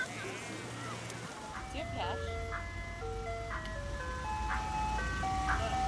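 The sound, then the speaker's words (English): An ice cream truck's tinkling jingle plays a stepped, music-box melody over a low idling engine rumble, steady throughout, with no one speaking. “Eric at Big Money wanted an ice cream truck.”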